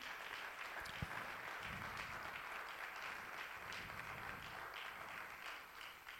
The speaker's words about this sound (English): If you are a father in any of the father roles, stepfather, foster father, if you are playing that father role, we want you to stand this morning, and we want to honor you. Why don't we give them a round of applause this morning.